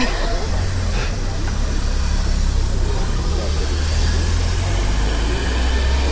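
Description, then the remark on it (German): A car, not a Volkswagen, starts up and runs in the background, giving a steady, low, continuous rumble that fills the whole stretch at a moderate level. “Nee, welches Auto startet hier gerade im Hintergrund?”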